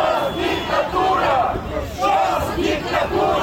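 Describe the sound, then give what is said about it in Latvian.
A crowd of protesters, mostly pensioners, at a pro-Russian demonstration in Chișinău, Moldova, shouts together in loud, rhythmic waves of chanting, rising and falling roughly every second with a dense murmur of voices underneath. “Arī šodien Kišiņevā notiek prokrieviska demonstrācija.”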